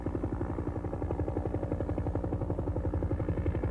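A police helicopter drones steadily with a fast, rhythmic rotor thump and low engine roar as it arrives over the seven farms of Kölbeldorf, staying loud and even throughout with no voices.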